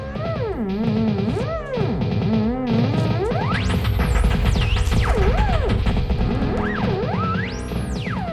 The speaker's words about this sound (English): So you're hearing one elephant playing a theremin, which is that electronic instrument where you wave your hand around and it changes the radio frequencies. And another one is playing on, two of them are actually playing on a giant synthesizer